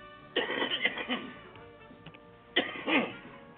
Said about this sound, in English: Cough.